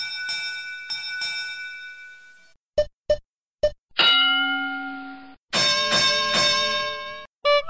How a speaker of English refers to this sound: That's just a few of the tones in the library of doorbell sounds.